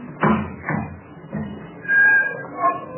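door being opened

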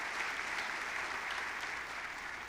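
loud audience applause

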